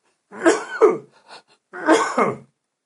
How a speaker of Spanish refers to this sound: que estoy tosiendo.